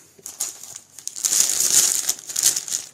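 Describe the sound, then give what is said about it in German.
Crinkling packaging rustles continuously for a few seconds, a close, dry crackle of plastic or foil being handled, rising and falling in busy irregular bursts with no voices. “Ja, raschel doch noch ein bisschen.”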